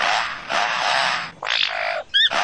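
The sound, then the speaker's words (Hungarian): A lyrebird sings a run of mimicked sounds, such as a car alarm or a chainsaw: broad, harsh noisy bursts like machinery, then a rapid series of high, stepped electronic-sounding chirps. Loud, with no talking. “A landfarkomadár az egyik legkiválóbb hangutánzó állat a földön. A környezetében hallott minden hangot képes leutánozni.”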